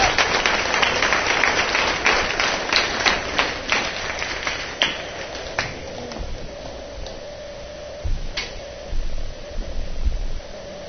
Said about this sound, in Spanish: Una buena bienvenida, un aplauso, ¿por qué no? Al Señor.